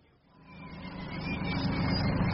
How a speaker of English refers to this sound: a funny noise has developed in the engine. Really? It sounds like a lot of hamsters enjoying a bumper harvest.